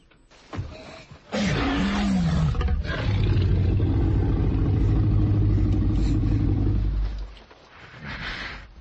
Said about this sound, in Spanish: Efecto dinosaurio, clarísimo, un rugido y vamos con más cosas.